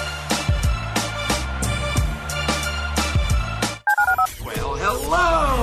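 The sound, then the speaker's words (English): Telephone keypad tones beep in a quick series over a rhythmic musical jingle with thumping beats for the listener line of ESPN's Press Box radio show, followed by a brief burst of dial tones and then a voice. “Dial the phone.”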